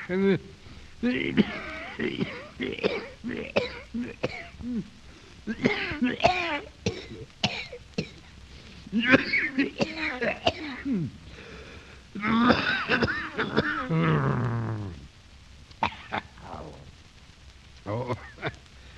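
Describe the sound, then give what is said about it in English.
A hacking cough from a cold lasting months, mixed with repeated throat clearing and wheezy, strained vocal sounds, fairly loud, coming in uneven bursts over roughly fifteen seconds before trailing off. “Oh, I think this is the hooking cough I have.”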